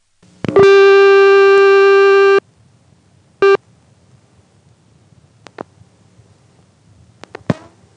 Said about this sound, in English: Before we go, let's dial the last digit 0 on that same phone line that we've been calling over and over within Benson.